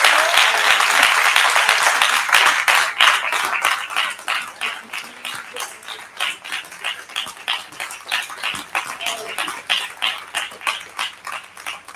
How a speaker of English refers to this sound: Let's give him one more hand clap of praise as it's seated.